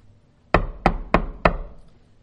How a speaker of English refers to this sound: There comes a rude awakening, a knocking at the door. You open the door.